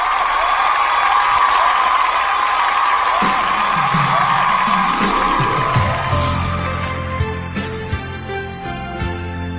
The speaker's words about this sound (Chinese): 啊，咱鼓掌吧，要不？